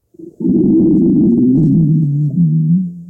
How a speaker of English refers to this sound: My belly rumbles.